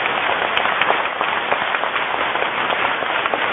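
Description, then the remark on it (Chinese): Sustained applause from a crowd of over ten thousand at a large Buddhist dharma assembly, thanking Hong Kong's St John Ambulance brigade; dense and steady with many overlapping claps blending into a continuous rushing wash of sound, staying loud throughout without any voices. “这么大的法会，上万人，一万几千人，有一个默默在支持我们的队伍，那就是香港的圣约翰的救护队，他们每天陪伴着我们，让我们以热烈的掌声感恩他们吧。”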